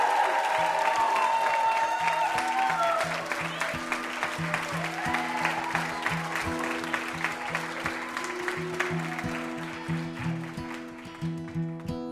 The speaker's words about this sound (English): How about another round of applause for our VIP, Paul Feig?